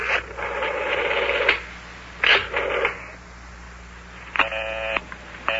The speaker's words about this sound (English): Is everybody talking on the telephone to one another? Boy, every number I dial is busy.